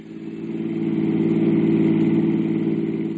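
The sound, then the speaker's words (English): A car being driven to Barker Street runs with a steady low hum that swells slightly as it revs, holding a smooth mid-pitched drone throughout with no voices. “I drove Endicott J. Knapp back to his realty office and went on to Barker Street.”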